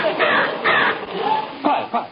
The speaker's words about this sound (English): Quiet, everyone. Listen to that bird. Now, who can identify that bird call? I think it's a robin. I think it's a thrush.